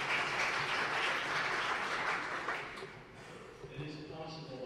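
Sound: applause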